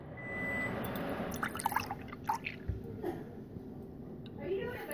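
milk being poured

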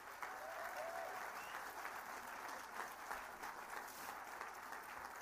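audience applause

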